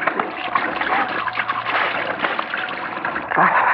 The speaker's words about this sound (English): I better splash some water on my face.